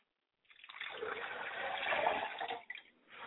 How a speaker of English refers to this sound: We like to pour a glass of water to my Father's spirit, and I say Ashe.